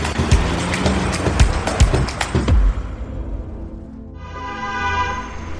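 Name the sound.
car horn honking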